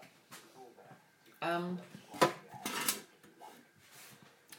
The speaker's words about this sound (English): My shelf came off into the door of the freezer.